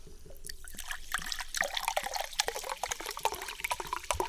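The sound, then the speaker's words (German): Liquid is poured steadily into a glass, a continuous splashing trickle full of quick bubbly plinks that grows a little louder after the first second and keeps going to the end, with no talking. “Soll ich jetzt nicht einschütten?”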